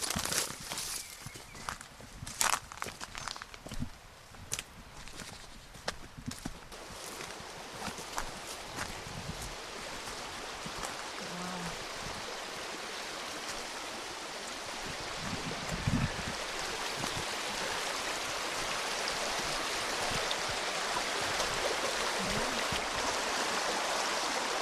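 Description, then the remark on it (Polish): A stream murmurs and rushes steadily throughout, its wash growing a little fuller toward the end, with scattered footsteps or hoof clops crunching in the first half. Horses come to this stream to drink water. “Tu przychodzą konie pić wodę, więc tu jesteśmy codziennie parę razy. A latem ja się kąpię. Ale ładnie szumi, nie?”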